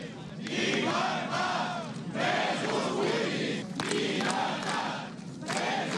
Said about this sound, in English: Around 100 of Catalonia's firefighters shouting freedom for political prisoners gathered on Monday in Barcelona to protest against Article 155